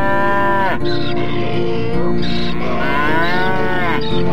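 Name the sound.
ox mooing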